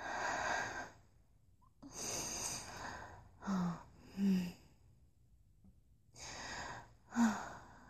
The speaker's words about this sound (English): By now I was panting.